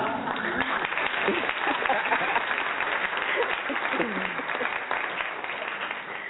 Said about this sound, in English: No, I don't have any money to give you, so I had to give you a round of applause.